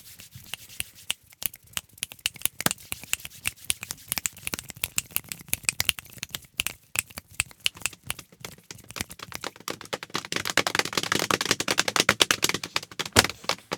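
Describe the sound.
People mimic rain with their hands, copying an a cappella group's rain effect: scattered sharp clicks and pats thicken into a dense, hissing patter that swells louder toward the end, with no voices.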